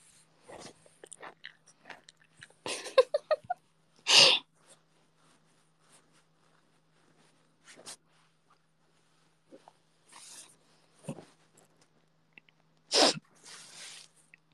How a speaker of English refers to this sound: There's force behind that snore, yeah. She's not asleep yet. That's just her breathing. That's just normal. That's just how she breathes.